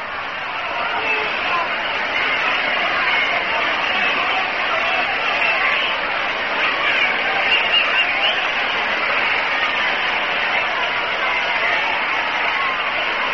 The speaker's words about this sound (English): Clemente gets an ovation from the crowd as he comes up here.